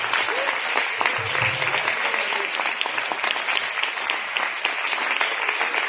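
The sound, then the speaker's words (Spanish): An audience applauds the fathers for several seconds, a dense, even clatter of many hands clapping at once with no voices standing out. “Un aplauso a los padres.”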